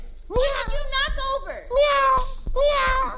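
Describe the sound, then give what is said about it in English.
A cat meows three times in a row, each meow loud and drawn out with a rising and falling wail, with brief sharp clicks between them. “Darn cat.”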